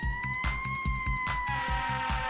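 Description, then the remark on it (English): A red fire truck's siren holds a loud, steady wail throughout, layered over a driving, evenly pulsing musical beat, with no voices present. “In our red fire truck, hear the siren sound.”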